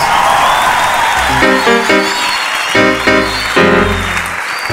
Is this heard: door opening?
no